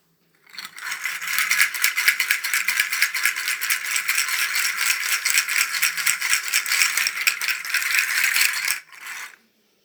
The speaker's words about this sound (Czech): Určitě jste poznali chacha ořechy.